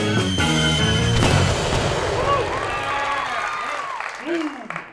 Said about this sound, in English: I like those huge rockets that take off in the sky and explode.